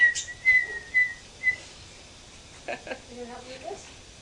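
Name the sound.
person whistling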